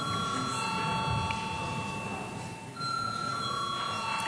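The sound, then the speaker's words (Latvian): A steady electric parliamentary voting call bell rings continuously for several seconds before deputies vote on a bill in its second reading, its bright sustained tones briefly dipping before resuming, with faint background murmur. “Lūdzu zvanu.”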